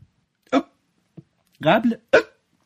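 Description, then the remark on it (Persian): A series of sharp hiccups, about four spaced irregularly over a few seconds, one of them faint and another drawn out with a voiced catch. “گاهی خنده، گاهی گریه، گاهی عدسه، حالام که سکسکه.”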